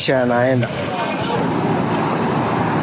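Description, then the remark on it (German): Loud, steady roar of road traffic with cars rushing past, a brief voice heard at the start before the continuous wash of engine and tire noise takes over. “Das Schwierige hier ist hauptsächlich, dass man sehr vorsichtig sein muss, wegen der Autos. Man kann schnell angefahren werden.”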